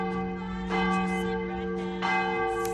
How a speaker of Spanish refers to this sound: Te hablo de unas campanas que no solamente repican a las horas en punto, también a las y media.